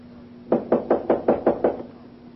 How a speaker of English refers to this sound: Knock on the door.